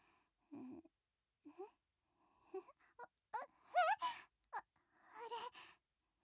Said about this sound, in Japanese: 何これ？私泣いてるの？変なの。